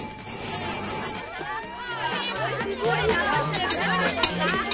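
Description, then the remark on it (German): A doorbell rings again and again in short bright bursts as about 15 friends arrive at a packed apartment party, over a steady din of many people chattering and laughing together, the noisy babble staying loud throughout. “Es sind schon 15 Freunde von Bibi gekommen und das Klingeln will gar nicht mehr aufhören.”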